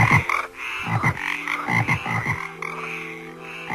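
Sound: frog croaking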